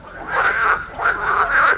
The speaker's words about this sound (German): 99% aller Frösche, die solche Laute von sich geben, sind männlich. Und die locken damit die Weibchen an. Und das ist so das Ziel, wer am lautesten und am meisten Geräusche macht, kriegt die meisten Weibchen ab.